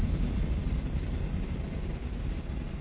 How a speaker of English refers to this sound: And that train always comes at a synchronistic time. That was the bad thoughts rumbling out of your mind, absorbing back into your mind.